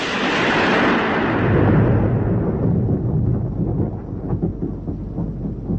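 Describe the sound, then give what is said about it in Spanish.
A loud, sustained roll of thunder crashes in with broad, bright energy, then fades into a long, deep rumble that keeps grumbling low for several seconds, with no voices. “Al darse cuenta de que había llegado tarde, se enfureció y desencadenó una tormenta.”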